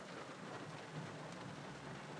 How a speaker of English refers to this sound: Summer thunderstorm, waiting in my car after picking up my flower CSA.